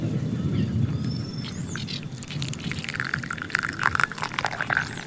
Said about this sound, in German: Ich bin gleich zurück. Ich fülle mal kurz den Kaffee um.